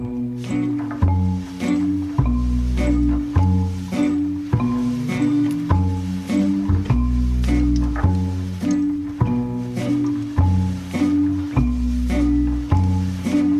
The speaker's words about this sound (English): This one's an incredible piece of music.